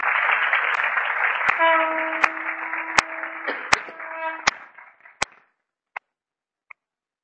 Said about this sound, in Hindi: संगत के लिए तालियां बजाओ।